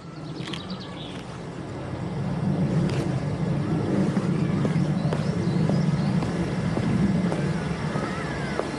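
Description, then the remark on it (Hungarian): A steady low engine drone runs throughout, swelling slightly after the first couple of seconds and holding at a constant idle, with faint clicks and rattles scattered over the hum. “Itt bent jár a motor.”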